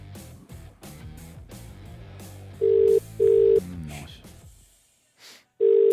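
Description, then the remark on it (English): A telephone rings out in a steady double-pulse pattern of loud, clean tones as a call is made to offer someone a bus trip to Melbourne for the AFL Grand Final. It is heard alone after a busier passage that may hold the dialing, then a pause before the ringing resumes. “Phone ready? Yep. Okay, here we go.”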